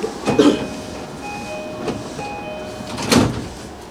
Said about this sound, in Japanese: ご注意ください。ドア閉まります。乗り換え乗車はおやめください。ドア閉まります。